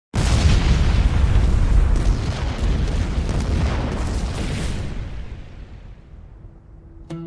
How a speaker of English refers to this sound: The massive explosion destroyed the walls of the cella, tumbled over columns, blew off sculptures, and the entire roof collapsed.